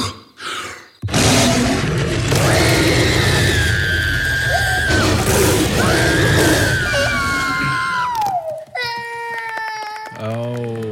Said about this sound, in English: And when that happens, what we heard in that clip was we heard that lion roar. That was Sully showing the new monsters how to scare. That was also Sully scaring Boo.